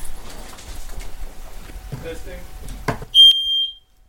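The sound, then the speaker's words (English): A newly installed smoke detector on the lower level of a split-level flat is tested for fire protection, giving one loud, piercing electronic beep lasting about half a second near the end, after some muffled shuffling and faint voices. “That's your new smoke detector installed at the lower level, which is fire protection.”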